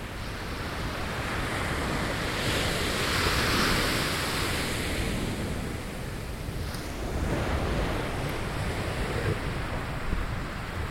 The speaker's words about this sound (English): So you're hearing the ocean behind me now.